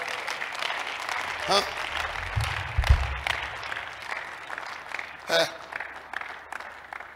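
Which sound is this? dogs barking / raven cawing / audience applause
audience applause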